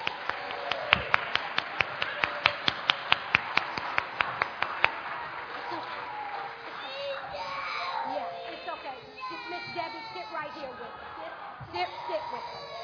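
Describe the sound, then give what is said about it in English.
A short burst of sharp, fairly evenly spaced hand claps for the children of Riversong for about five seconds, then the clapping stops and excited children's voices and chatter take over. “Give them a hand clap.”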